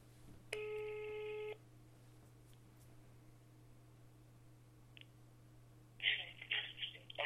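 A single steady electronic ringback tone of a telephone call being placed sounds for about a second over a low constant hum, followed by quiet line noise and then a brief burst of muffled voice-like sound near the end.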